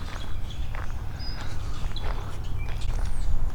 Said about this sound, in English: It's pretty birdy out here today. Meaning, lots of birds. Lots of bird action. Lots of bird noises. Birds hopping through the underbrush often sound like marmots, and so I keep looking for things and they just turn out to be birds.